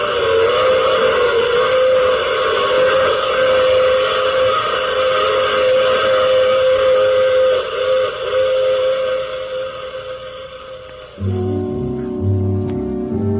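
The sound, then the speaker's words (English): A train whistle blows loud and long, a steady harmonic wail held for many seconds, before giving way to the rhythmic rumble and clatter of the train running along the tracks. “And remember, I take this same train every week at this same time.”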